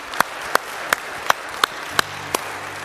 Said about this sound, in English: Why don't you give the Lord a hand clap this morning?